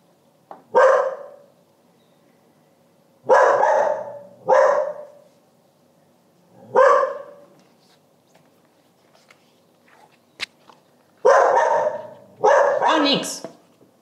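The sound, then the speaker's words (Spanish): A dog barks in loud, separate bursts, some single and some in quick pairs, with short pauses between them over a low steady background hum. “Tú ladras por si acaso.”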